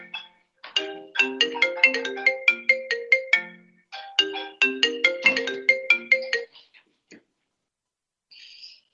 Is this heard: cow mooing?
no